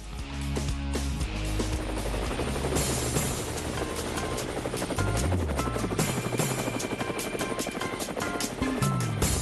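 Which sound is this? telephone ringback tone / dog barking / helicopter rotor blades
helicopter rotor blades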